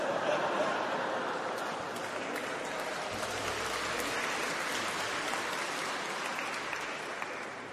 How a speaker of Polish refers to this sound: Widzę, że niektóre kobiety już mają doświadczenie w tej materii, także, bo to, że faceci klaskają, to normalne.